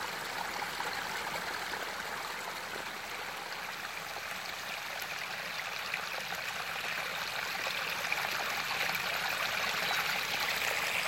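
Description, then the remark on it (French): A steady stream of crystal-clear water flows and burbles continuously, with a bright, hissing texture and soft trickles throughout, no voices. “Et plus vous vous immergez au sein de ce ruisseau, de cette eau cristalline, plus vous vous déposez, déposez profondément au cœur de qui vous êtes.”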